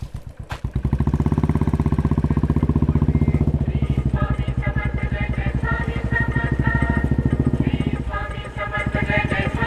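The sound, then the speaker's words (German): A Royal Enfield motorcycle engine thumps loudly and steadily during a ride, its low, rapid pulsing continuous throughout, with a sharp click right at the start and faint higher tones layered above. “Ja, und inzwischen sind wir heil zurück vom Enfield Drive.”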